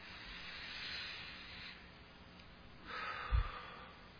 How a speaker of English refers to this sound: Won't you do me a favor? Everybody do it for me. Take a good deep breath in.